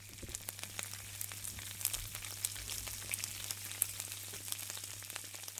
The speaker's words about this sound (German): Ich habe uns auch Räuchertofu mitgebracht und den können wir jetzt gleich probieren. Ich brate den in der Pfanne an und ich finde den ganz gut.